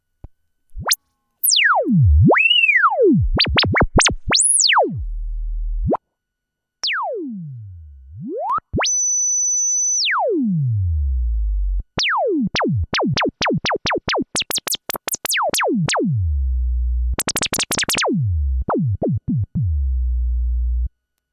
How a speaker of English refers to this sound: The low-pass filter is self-resonant, which means you can create all the bleeps and sweeps you desire.